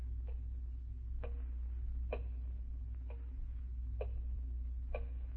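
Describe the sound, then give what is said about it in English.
A clock ticks steadily, about one sharp tick per second, over a low background hum with no voices present. “Ticking. Yeah, I know. I've been sitting here listening to it. I can't stand it anymore.”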